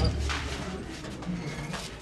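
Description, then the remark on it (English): A leg iron chain worn by a man arrested in South Sudan's Lake State scrapes and drags across a hard floor in a couple of rough, gritty strokes, fairly quiet, with low background rumble and no clear talking. “This man, you can hear his leg iron scraping against the floor, was arrested in South Sudan's Lake State for stealing 86 cattle in January.”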